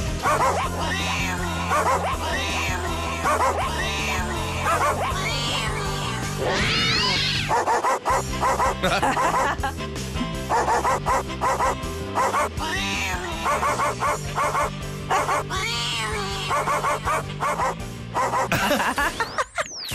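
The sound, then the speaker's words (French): A tune performed entirely by dogs and cats, with rhythmic barks, yips and meows pitched into a melody over a steady backing track, loud and continuous throughout. “une chanson chantée par nos chiens et nos chats, vous la retrouvez, c'est gagné.”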